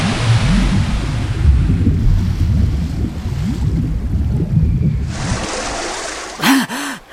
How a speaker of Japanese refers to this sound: キャー、何よこの大波。